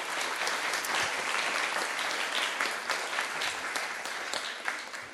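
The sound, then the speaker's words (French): An audience applauds children whose names were just read out at the start of the school year, steadily for about five seconds, a dense wash of many hands clapping at once, even in loudness, with no talking over it. “Vous pouvez les applaudir.”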